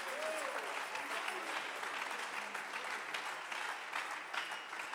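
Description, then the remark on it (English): An audience applauds, a dense wash of many hands clapping steadily, fairly loud and sustained across the whole stretch, with a brief whistle-like tone near the start. “Somebody ought to clap your hands.”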